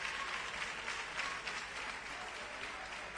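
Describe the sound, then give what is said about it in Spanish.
Steady applause from a group for departing former Recreativo captain Antonio Núñez, a dense continuous patter of many hands clapping at an even level for the whole stretch, with no voices standing out. “Bueno, pues un fuerte aplauso, ¿no?”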